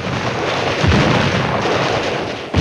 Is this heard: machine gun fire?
yes